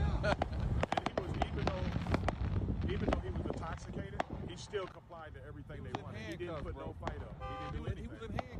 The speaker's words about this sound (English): There's a building on fire across the street. People are shooting fireworks into the sky while it's going down. Wow. Here's the fireworks.